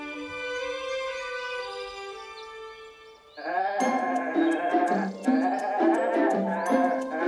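Goats bleating: one long, wavering bleat, then several overlapping bleats from a small herd, with a few light clicks scattered among the calls and no talking.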